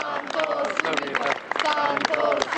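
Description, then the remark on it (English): A large crowd chants "Santo Subito" (sainthood now) loudly in unison during the funeral procession of Pope John Paul II, many voices rising and falling in rhythmic bursts, with scattered claps and general crowd noise underneath. “Santo Subito, sainthood now, the crowds shouted during his funeral procession.”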